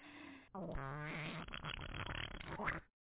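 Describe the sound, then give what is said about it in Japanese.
A middle-aged woman's long, loud, sputtering fart while walking, rumbling and fluttering for a couple of seconds with a brief pause near the start before trailing off, with no talking. “おなら、止まんなくなっちゃった。”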